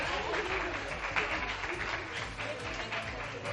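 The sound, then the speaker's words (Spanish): Steady applause from an audience at an award ceremony, for people receiving diplomas from the regional minister: a dense continuous patter of many hands clapping at an even loudness for a few seconds, with faint voices mixed underneath. “Un aplauso para ellos, un aplauso, que lo han hecho muy bien.”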